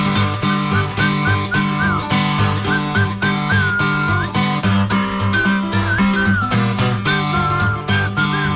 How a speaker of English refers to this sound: Didn't seem to pay me no mind, but I remember what Papa said. Must whistle for you.